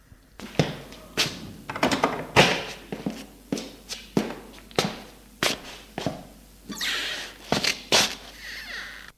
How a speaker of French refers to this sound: Sans se retourner, lui fermer la porte, il va dans la salle commune s'asseoir sur une chaise.